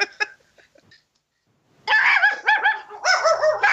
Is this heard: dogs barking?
yes